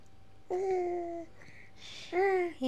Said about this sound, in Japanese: 今日はおちびを抱っこしながらラジオを撮っておりますので、ふごふごとした鼻声やたまに、声が、子供の声が入るかもしれませんが、ご了承ください。